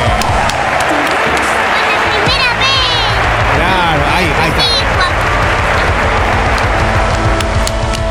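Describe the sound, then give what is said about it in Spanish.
An audience applauds loudly and steadily for about eight seconds for the host's wife, who is helping as part of the staff, a dense wash of clapping with a few voices cheering and shouting over it. “Así que se merece un aplauso, claro que sí.”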